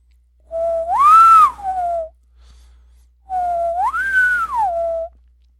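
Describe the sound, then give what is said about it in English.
Two clear, high-pitched whistles, each rising from a low note to a higher sustained tone and dropping back down, a low-high-low shape, separated by a short pause. Fairly loud, with no talking. “They emit a high-pitched, three-part whistle in the pattern of a low, high, low.”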